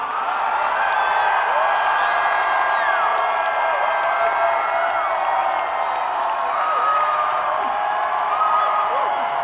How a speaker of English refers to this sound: This is the part of the encore where you guys have to scream so fucking loud.